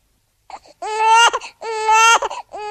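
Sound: newborn baby crying loudly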